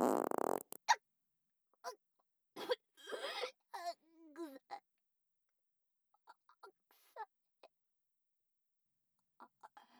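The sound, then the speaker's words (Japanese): A loud fart rips out right at the start, the first of several, followed by a string of high, distressed squeals and whimpers, then a few faint, scattered short sounds. “あなたはもういらない。おならにまみれて死ぬの。ほら、一発目。”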